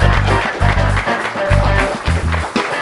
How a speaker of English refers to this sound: Thank you very much, Donna. Community event here. Round of applause for Donna.